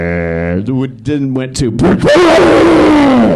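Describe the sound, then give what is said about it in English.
A voice imitates Mitch's glitching guitar distortion pedal, which randomly decides to distort: a buzzy, steady tone that stutters and cuts out several times, then bursts into a loud, harsh, gritty roar that holds to the end. “And Mitch also had a habit of never fixing his equipment, so his distortion pedal would randomly decide to distort.”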